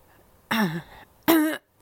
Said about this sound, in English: No, you don't. Hang on. You don't need to do that into the microphone. You don't need to clear your throat into the microphone.